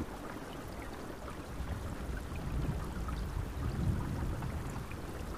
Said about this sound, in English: And what is this thing called? This thing's called My Noises. It's an app for the iPhone, but it's on the web too. It's web based, so if you don't have one of these, you can. Do you have any thunder in there? Yeah, we can do that.